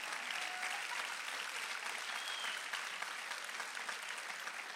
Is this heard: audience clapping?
yes